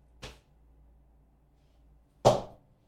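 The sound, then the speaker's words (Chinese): Two sharp whip swishes cut through the air about two seconds apart, the first lighter and the second louder, with near-silence between them and no talking. “鞭子在你身上游走，像蛇一样。”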